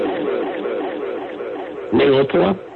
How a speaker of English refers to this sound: Sorry, I just had to put an echo on that.